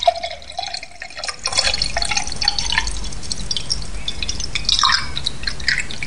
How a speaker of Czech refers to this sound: Takže třeba tam slyšíte, že se napouští nějaká nádoba.